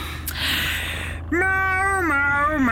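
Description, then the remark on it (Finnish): A single long, drawn-out cat meow, loud, rising and then falling in pitch, following a moment of faint hissing background noise. “Miau.”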